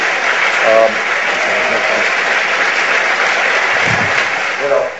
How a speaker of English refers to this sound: No, please, I'm not done enjoying your applause yet.